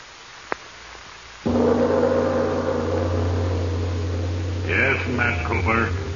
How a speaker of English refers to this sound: the constant hiss of air into your helmet assured you that